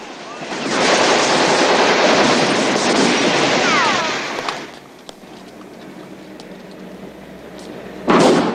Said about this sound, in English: The bus accelerates down the road, over the verge, and up the plaza steps leading to the town hall. Officers scatter. The windscreen shatters.